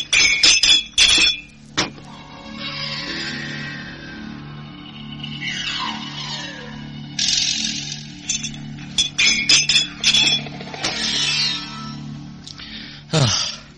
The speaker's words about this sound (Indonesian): Sementara itu di ruang cuci Kaputren, prajurit itu masih sibuk dengan pekerjaannya mencuci piring dan cawan.